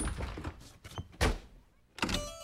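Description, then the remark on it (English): A door swings shut with a solid thunk, followed by a few more knocks and a final clunk as it's locked, with no voices. “They locked the door and the three bears played happily.”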